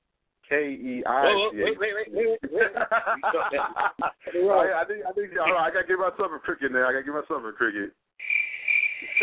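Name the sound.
crickets chirping sound effect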